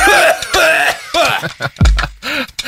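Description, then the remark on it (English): A person coughs hard several times in a row after smoking marijuana, harsh raspy bursts with strained, throaty breaths between them, loud with no talking. “is coughing up the marijuana he just smoked.”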